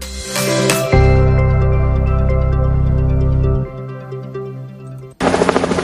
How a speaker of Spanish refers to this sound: El sonido del helicóptero de rescate nos acompañará en más ocasiones de las que nos gustaría.